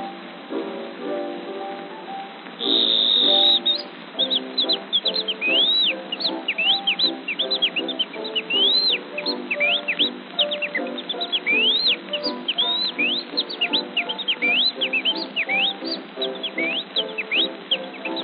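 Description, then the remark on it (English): Someone whistles an imitation of a bird call, a continuous run of quick, rising and falling chirps over a steady, low, droning background, loud for the whole stretch. “But how is this for a bird?”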